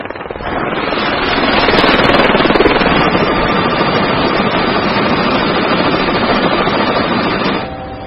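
A film crew's helicopter roars, its rapid rotor chop loud and steady for several seconds before cutting off near the end. No one speaks.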